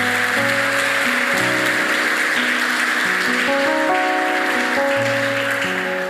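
An audience claps steadily in a dense, continuous wash of applause, while sustained keyboard chords shift underneath throughout.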